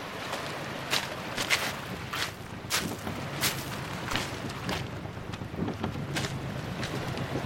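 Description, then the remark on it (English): A small dinghy loaded with rubbish motors across open water from the beach back to a boat, with a steady low rumble, buffeting wind on the microphone, and repeated sharp slaps and splashes as the hull hits the chop. No one speaks. “Well, we're just headed back to the boat from the beach with a dinghy absolutely brimming with rubbish.”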